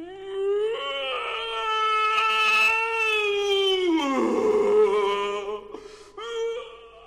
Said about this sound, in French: Les hurlements qu'il poussa firent trembler toute l'île.